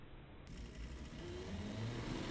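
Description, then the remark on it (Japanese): A Baby Universe company electric car pulls away, heading for Atami Station, where the last Kodama train waits. A low rumble with a steady hiss is joined by a faint motor whine that rises in pitch and grows slightly louder as the car picks up speed. No one speaks. “二人はベビーユニバースの社用車である電気自動車で、最終の小玉が待つ熱海駅に向かっていった。”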